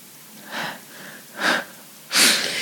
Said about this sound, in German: Habt ihr den Atmer gehört? Habt ihr ihn gehört?